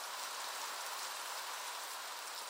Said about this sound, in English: Now, let's get out of this rain.